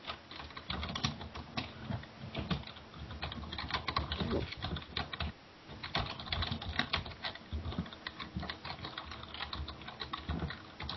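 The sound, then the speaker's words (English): Steady, rapid typing on a computer keyboard, with dense clacking keystrokes and a brief pause near the middle before the clatter resumes. “You're not even typing.”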